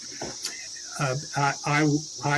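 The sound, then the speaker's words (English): Cicadas buzz in a steady, high-pitched drone throughout, with a series of four louder, pulsing tonal bursts rising over it at a regular rhythm. “I had some good success attracting the cicadas.”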